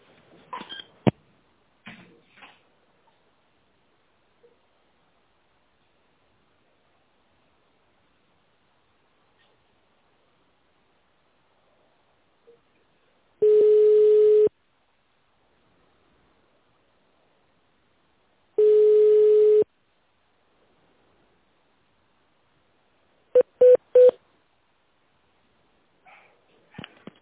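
Two long, steady low-pitched ringing tones with silence between them, then three quick, evenly spaced keypad beeps as an extension number is dialed on a phone in the Stroyservis company's automated phone menu.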